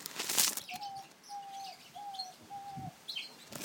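A diamond dove, a small Australian dove about the size of a budgie, coos four soft, evenly spaced, mid-pitched notes in a steady rhythm, with a brief fluttering rustle at the start and faint chirps from other birds in a back-garden aviary on a sunny day.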